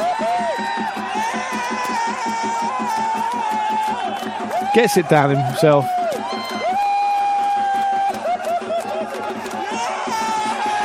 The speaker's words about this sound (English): And listen. The crowd goes wild. There might be a more typical Australian scene than that, but I have never seen it.